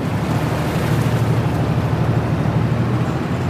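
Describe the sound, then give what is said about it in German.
The ferry at Fahr am Main, Germany, crossing the river Main to the other bank, its engine chugging steadily in a low, droning rumble, with a constant wash of water and wind noise over it. The sound stays even and moderately loud throughout, with no voices. “Gemächlich tuckert die Fähre in Fahr am Main über den Fluss hinüber ans andere Ufer.”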